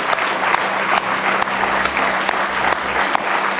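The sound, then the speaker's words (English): An audience claps together in a sustained burst of applause as praise to God, dense overlapping hand claps forming a steady, loud wash with occasional sharper individual claps standing out, and a low hum underneath. “Let's give Him one more good hand clap of praise tonight.”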